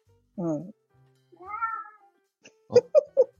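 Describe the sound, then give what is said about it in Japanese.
A cat meows twice, one short call and then a longer rising-falling one, followed by a few brief bursts of human voice. “猫ちゃんいるよって今言ってくれたんじゃないですか。”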